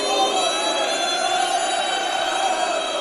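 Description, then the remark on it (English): A dense stadium crowd roars steadily, a wash of many voices chanting and cheering together at a constant, loud level with no pauses, heard from within the stands. “How do you take the madness of the crowd and turn it into art?”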